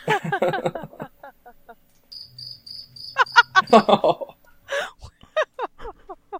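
Crickets chirp in rapid, repeated bursts, loud, with short pauses between trills and a thinner, steady high chirping running through the middle.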